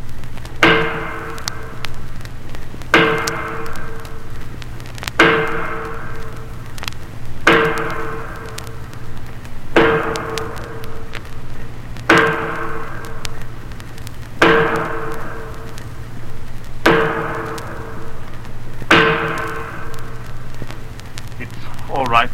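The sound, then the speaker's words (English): Sledgehammer blows ring out on metal, tightening the bolts and wing bolts that hold a door shut for a watertight seal, about nine loud clanging strikes at a steady slow pace, each leaving a long metallic ring that fades before the next hit. “The bolts and wing bolts that hold the door shut, they have to be tightened by hammering with a sledge.”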